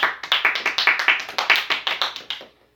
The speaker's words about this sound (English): And if you all want to clap and say amen, now's a good time to clap.